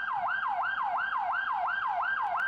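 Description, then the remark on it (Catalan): A police car siren wails in a fast, steady yelp, rising and falling about three times a second. It is loud, with no voices. “Encara no hem pogut gravar el so real de la seva sirena, però la policia local de Sant Feliu aquesta setmana ha estrenat cotxe.”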